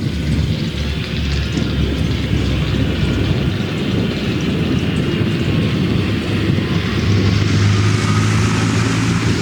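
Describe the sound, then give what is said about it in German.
A tractor engine runs steadily throughout, mixed with rumbling thunder, a loud, deep rumbling drone with no pauses, its low hum growing slightly more tonal toward the end. No one speaks. “Wie könnte es epischer sein als mit dieser Mischaufnahme vom Traktorengeräusch und Donnergrollen.”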